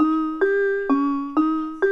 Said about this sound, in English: Yeah, and here's an example of a piano sound without reverb.